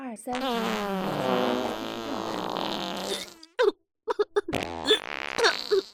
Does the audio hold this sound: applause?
no